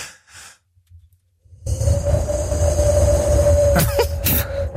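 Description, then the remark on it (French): A person blows to imitate wind, starting with two short breathy puffs, then a long, loud, steady rush of air with a faint sustained whistling tone running through it. “je vais imiter le vent”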